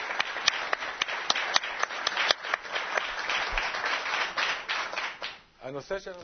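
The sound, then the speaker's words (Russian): Steady applause from a small crowd for a group from the town of Rehovot, many hands clapping with sharp individual claps standing out, fading after about five seconds before a voice begins speaking. “Аплодисменты группе Реховата.”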